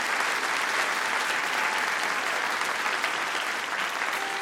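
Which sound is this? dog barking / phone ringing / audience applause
audience applause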